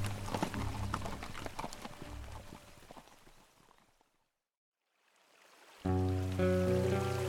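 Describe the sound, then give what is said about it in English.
A group of Métis riders with their prisoners on horses splash noisily across a creek, hooves clattering through the water as they head into thick woods, before the sound fades into silence; sustained music then swells in. “He led the way, and with the others following, the group of Métis and their prisoners splashed across the stream and disappeared into the thick woods on the far side.”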